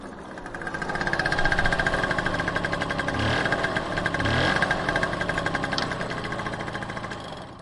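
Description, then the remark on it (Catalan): A small scooter engine idles with a steady, rapid putter, its rough knocking pulse swelling slightly in the middle before settling back to an even chug, as the riders stop to leave it among other mopeds. “Baixa, deixarem la moto aquí entre els altres ciclomotors.”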